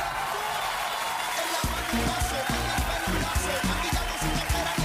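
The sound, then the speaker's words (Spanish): A steady wash of crowd applause for the maestro Luis Andaur fills the whole stretch, and partway through a rhythmic pulse of lower, beat-like thumps joins underneath, keeping an even tempo to the end. “Un aplauso al maestro si está escuchando.”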